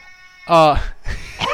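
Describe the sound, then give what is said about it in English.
A male cat lets out one loud, drawn-out meow, starting strained and wavering in pitch, after a faint steady hum and followed by a stretch of rough, noisy shuffling. “could you shut that cat fucking up?”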